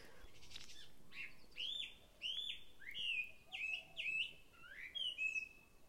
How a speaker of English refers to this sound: That bird just sits on the branch, opens its heart, opens its little beak, and sings. And not even for any purpose, just for the joy of singing, because that is what it does in this world.